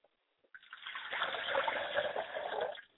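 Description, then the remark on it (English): Liquid is poured as a libation to Obatala in one continuous, steady stream lasting a couple of seconds, with a bright, hissing splash that starts abruptly and tapers off at the end. No one speaks. “We pour libations to my Baba, and that is Obatala.”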